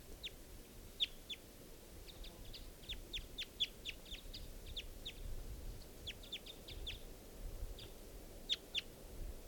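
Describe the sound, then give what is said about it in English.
A male wild bird, at 10:11 a.m. in trees above a net, calls repeatedly in quick, sharp, high-pitched chirps, coming in irregular bursts over a steady low background hum, with no talking. “And that's the male calling there.”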